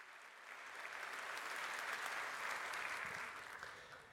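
Steady, dense applause from an audience for the event's angels: many hands clapping together in a broad, crackling wash that swells in and holds at a fairly even level for a few seconds, with no talking over it.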